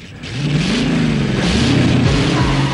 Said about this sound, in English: She flings her arms backwards, throws her head back and stands on tiptoe as the two cars set off past her in a cloud of dust.